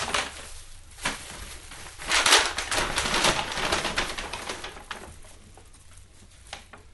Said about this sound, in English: I got a plastic bag that I think some tomatoes came in. And I'll get one of those handle bags.